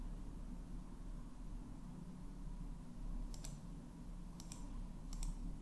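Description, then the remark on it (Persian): Computer mouse clicks while selecting a date of birth in a personal information form: a few short, crisp clicks, some in quick pairs, over a steady low background hum, with nobody talking. “در قسمت جنسیت، جنسیت خودمون رو مشخص میکنیم و در قسمت تاریخ تولد، تاریخ تولد خودمون رو با کلیک بر روی این قسمت انتخاب میکنیم.”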